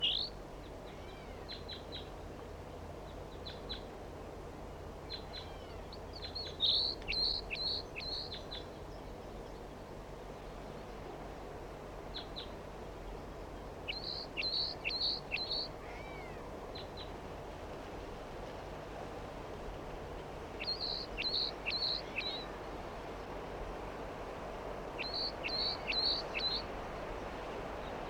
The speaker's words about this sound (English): The other bird is in a treetop nearby, just perched, going up. That was a bird that just went up. Juvenile bird.